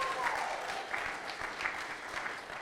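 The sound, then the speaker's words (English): A church audience claps steadily to honour the man who led the Easter services, a dense, continuous patter of many hands at moderate loudness, with no voices rising above it. “And so a round of applause. You probably can do a little bit better than that.”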